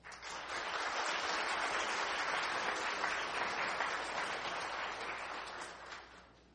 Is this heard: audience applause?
yes